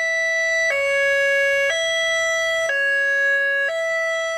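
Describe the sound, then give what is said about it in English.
A new Santa Rosa Fire Department two-tone high-low evacuation siren, demonstrated outside City Hall, alternates steadily between a high and a low pitch, switching about once per second, loud and continuous with no talking. “Santa Rosa residents who were packed into City Hall on Tuesday were startled when a representative from the fire department stepped outside to give everyone a taste of the new evacuation sirens.”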